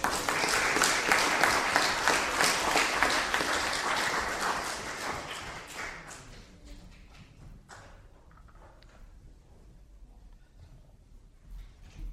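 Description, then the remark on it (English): A church audience claps steadily and loudly for about six seconds after a Bible story about Jesus is told, a dense crackle of many hands, then the applause thins out and fades to scattered faint claps and quiet. “I think they deserve a clap.”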